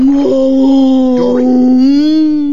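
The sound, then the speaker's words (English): Dory, trying to speak whale to a whale, imitates a whale call with one long, loud, drawn-out moaning wail, holding a steady mid pitch that wavers slightly and bends upward near the end. “Are you sure you speak whale?”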